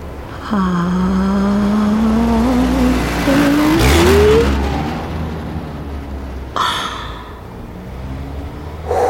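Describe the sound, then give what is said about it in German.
A car engine revs up and pulls away, its pitch climbing steadily as it approaches and roars past close by, then fades off with a brief whoosh near the end. “Der Wagen fährt los, kommt auch auf mich zu”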